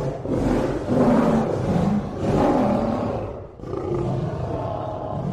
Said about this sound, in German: Der Thundergard bemerkt Isabella erst gar nicht, da er so laut brüllt.